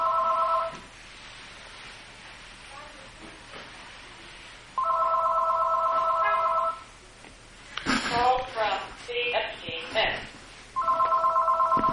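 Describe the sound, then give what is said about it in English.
A telephone left right on the microphone rings loudly in three repeated bursts, steady electronic warbling tones separated by pauses. Muffled voices talk between the rings. “Phone would be left right on the mic.”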